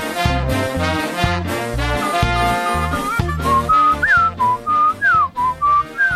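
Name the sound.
person whistling a tune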